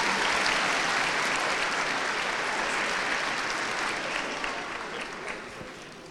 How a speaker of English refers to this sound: please give her a big round of applause as she takes to the mic.